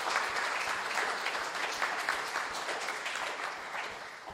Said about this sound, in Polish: Także jak możecie zabić dla nich brawa, ale też i dla naszego Pana, to będę bardzo wdzięczny.